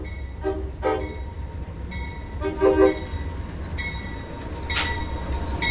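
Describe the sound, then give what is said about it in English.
An Amtrak passenger train, the westbound Empire Builder, rumbles steadily as it arrives at Union Depot while its horn sounds in several short harmonic blasts, one sustained tone, and a sharp high screech near the end, with no voices. “The first passenger train to arrive at Union Depot since 1971 was more than an hour behind schedule.”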